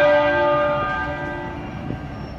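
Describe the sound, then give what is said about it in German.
A church bell at Westminster Abbey tolls once, loud, its rich metallic ring hanging in the air and slowly fading away with no voices; it was tolled 99 times, once for each year of a prince's life. “99 Mal schlugen sie die Glocke gestern in der Westminster Abbey, einmal für jedes Lebensjahr des Prinzen.”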